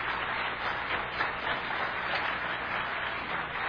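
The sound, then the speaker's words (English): An audience applauds two contestants steadily, a dense wash of many hands clapping at once, sustained and fairly loud throughout with no voices on top. “A round of applause, I think, is due again for our two fine contestants.”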